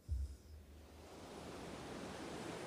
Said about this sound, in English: This actually fits because this is about the ocean sounds in the background. You hear that? This is important to the story.